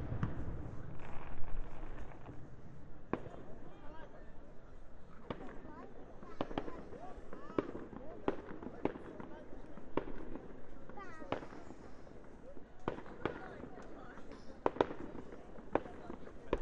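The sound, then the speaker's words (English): Bonfire Night fireworks going off in an irregular, rapid string of sharp cracks and pops over a steady low rumble, with a few louder bangs toward the end and faint voices underneath. “Bonfire night, and they all went off they at once in 30 seconds.”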